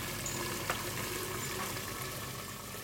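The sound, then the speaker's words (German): A Solvent Assisted Flavor Evaporation apparatus, with two arms holding two round-bottom flasks, distills under high vacuum with a steady, soft hiss and faint bubbling throughout, broken by one brief click partway through; no one speaks. “Also das ist diese Apparatur mit den zwei Schenkeln, wo zwei Rundkolben dranhängen und wo wir jetzt eben unter Hochvakuum destillieren.”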